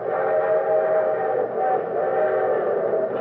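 A train loaded with war supplies pulls out bound for Moscow, rumbling steadily with a sustained whistle tone riding over it, loud and continuous for a few seconds, with no voices.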